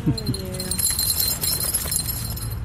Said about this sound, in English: And the puppies are whining.